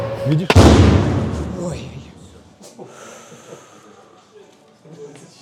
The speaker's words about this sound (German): Ist was getroffen? Diese Drohne hat ihr Ziel verfehlt. Ihre Sprengladung ist trotzdem explodiert.